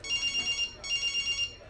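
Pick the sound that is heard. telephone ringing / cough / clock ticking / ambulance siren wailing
telephone ringing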